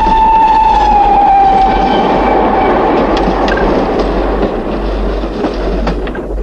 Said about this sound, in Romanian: Afară plouă și e frig. Din timp în timp se aude huruitul trenurilor care se pierd repede în noapte.